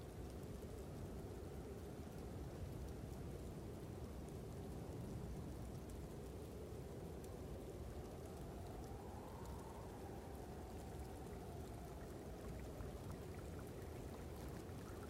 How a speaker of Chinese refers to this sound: 不远处，一条小溪不畏严寒，依然欢快地流淌。